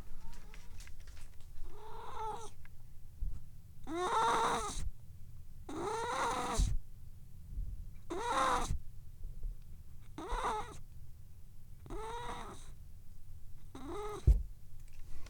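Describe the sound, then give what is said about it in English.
A cat yowls repeatedly while using the litter box, long drawn-out wails, about seven cries spaced a second or two apart over a low steady rumble, fairly loud with no talking. “There she goes. Kitty poop noises.”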